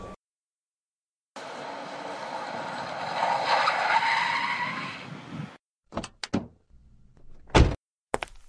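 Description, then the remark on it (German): A car engine revs up and pulls away over a few seconds, with a rising, whining tone and some tire noise, followed by several short, sharp thumps like doors. “Wir nehmen mein Auto.”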